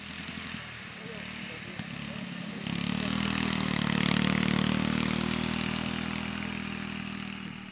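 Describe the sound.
A ride-on lawn mower tractor engine, which people are trying out, drones steadily, swelling louder partway through into a sustained, rumbling roar, with faint voices in the background early on.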